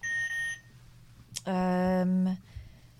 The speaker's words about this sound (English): But I want to play it with buzzers. So... Right, so hang on, we're going to record our buzz. What should we have on this?